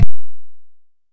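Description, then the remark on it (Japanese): A single quick, sharp throat clearing ending in a low boomy fade, followed by silence. No one speaks. “咳払いしたいから、ちょっと一回。”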